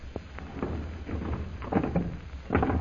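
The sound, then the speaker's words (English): A heavy secret passage door is pushed shut: a series of scraping knocks and rumbling thuds over a few seconds, ending in a firmer clunk, with no one speaking. “We'd better close this door again,”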